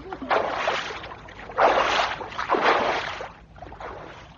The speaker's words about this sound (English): We went quite a long way upstream with them. The little canoe, weighed down by our extra weight, moved slowly, but it was such a relief not to be swimming that we enjoyed it.